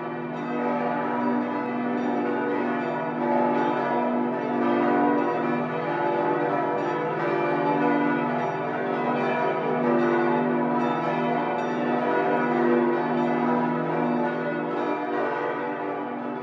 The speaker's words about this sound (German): Die Glocken sind alle nach dem Krieg erst hereingekommen. Mit ihrem hellen Klang machen sie das unverwechselbare Gesamtgeläut der Lorenzkirche aus mit insgesamt 16 Glocken.